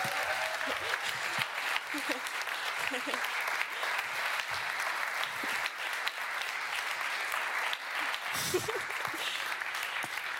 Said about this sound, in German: So, herzlichen Dank am Kids-Treffen, das coole Theater. Dann doch alle mal ganz fest klatschen, dass sie sich alle verbeugen können.